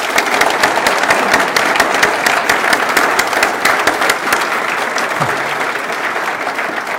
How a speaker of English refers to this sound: So please, let's give them all a round of applause.